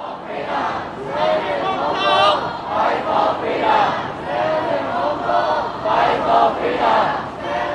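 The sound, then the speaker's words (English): A large crowd of protesters in Hong Kong chants in unison, many voices shouting the phrase "Fight for freedom, stand for Hong Kong" again and again in a steady, pulsing rhythm, loud and continuous throughout. “Those are the words of protesters there.”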